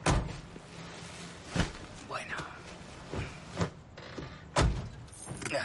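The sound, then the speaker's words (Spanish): Several sharp thunks of car doors closing, spaced a second or two apart, with rustling and shuffling in between as people settle in; a voice speaks briefly. “Se montan en él.”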